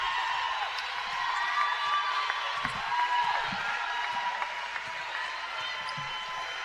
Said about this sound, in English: Now it's home crowd up on their feet cheering